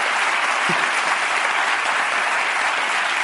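A crowd applauds steadily, a dense wash of many hands clapping at an even, loud level throughout with no pauses or voices breaking through.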